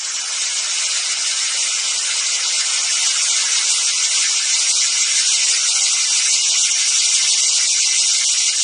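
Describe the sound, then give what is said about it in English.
A dense, continuous chorus of cicadas buzzes loudly and steadily throughout, a bright, shimmering drone with slight pulsing flutter and no pauses, with no voices present. “let's hear a quick clip from it, from the Song of the Cicada”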